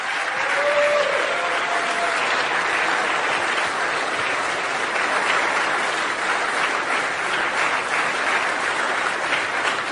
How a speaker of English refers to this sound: Thank you very much, Mr. President. Please, a round of applause for the President of the United States of America.